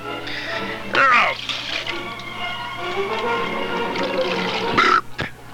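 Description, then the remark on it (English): Liquid pours steadily into a glass, its gurgling pitch rising as the glass fills, with a few clinks and muffled background voices around it. “Could you, give me some more drink, please?”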